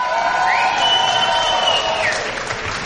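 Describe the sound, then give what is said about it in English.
A crowd at Dick's Last Resort cheers and applauds steadily for about three seconds as former Vikings quarterback Christian Ponder is introduced, a dense wash of clapping with whoops and shouting voices rising above it, loud and sustained throughout. “I'm going to tell you right now in this room, 80% was a cheer for you, 20 was me.”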